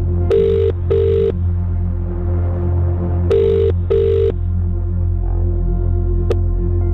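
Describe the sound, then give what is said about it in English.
A phone rings twice in a double-burst pattern, pauses, then rings another double burst, heard through a line with a steady low hum underneath and no talking; an outgoing call to a randomly chosen number from a callback list. “And the phone is a-ringing.”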